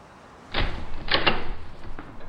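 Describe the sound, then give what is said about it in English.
A door opens with a solid clunk, followed by a quick rattle of the latch and handle and a soft scrape as it swings, moderately loud with no voices. “When I was finally ready, I rang the doorbell, just as I had always done.”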